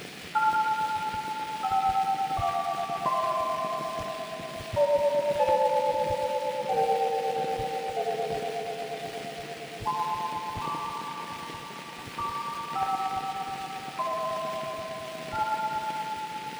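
A toy chime, the new Toyland chime, plays a slow, bright melody of clear ringing notes, each struck and fading, first stepping downward and then rising again, alone with no voices.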